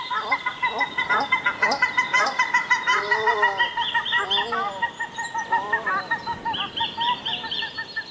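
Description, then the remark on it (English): Paradise ducks call over and over as they fly across, in a loud, overlapping chorus of nasal honks, several birds sounding at once in quick repeated bursts for the whole stretch, with no talking. “Right down to paradise ducks fly across.”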